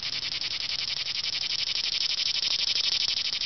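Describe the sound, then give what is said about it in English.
A person's voice imitates a chirping insect: a steady, shrill drone like a cicada, made of rapid, evenly pulsing buzzes that hold at a constant loud level for several seconds with no talking. “I want you to put in some cicada sounds instead of that.”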